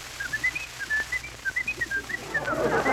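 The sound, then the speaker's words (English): A man whistles a quick series of bird-like trills and chirps, rising and falling in bright warbling bursts, clear, imitating birdsong with no talking. “Why, I mind the time I was the whistling sensation of the Chautauqua.”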